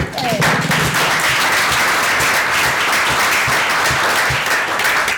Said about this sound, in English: So let's have a big round of applause for Plexor.